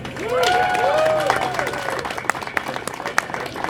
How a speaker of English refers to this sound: Please join us in giving another huge round of applause to all these fabulous winners.